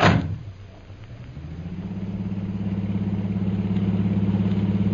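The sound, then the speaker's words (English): A taxi's car engine starts with a brief burst, dips, then steadily revs up into a low, even hum as the taxi pulls away to take its passengers to India House, with no voices. “There's usually a taxi right outside the door here.”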